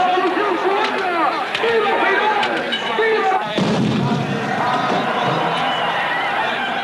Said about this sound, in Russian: Салют! Салют! Салют!